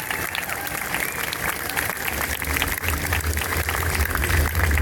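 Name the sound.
audience applause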